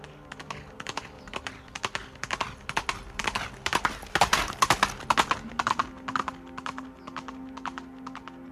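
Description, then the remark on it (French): Horse hooves of a rider setting out on horseback for Taghit clip-clop in a steady, brisk rhythm, fairly loud, with a low sustained tone rising underneath partway through. No one speaks. “Charles part à cheval.”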